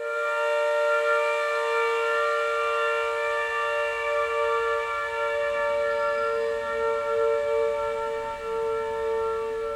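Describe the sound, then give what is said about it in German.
A loud, steady siren at a briquette factory, sounded at the start of a shift, wails continuously with a sustained, harmonically rich tone that holds for the whole stretch, slightly wavering but unbroken, with no voices present. “Woran ich mich noch immer nicht gewöhnt habe, ist, dass zum Schichtbeginn dreimal die Sirene hier läuft.”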